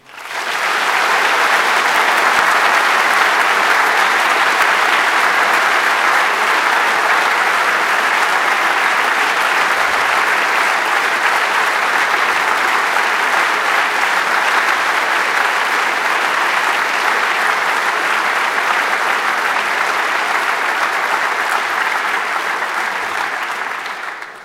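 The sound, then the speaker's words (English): A large audience at the close of the 27th Chaos Communication Congress breaks into sustained, loud applause for the volunteer helpers, the angels, a dense wash of clapping that holds steady for over twenty seconds before tapering slightly at the end. “And so very, very big applause for our angels.”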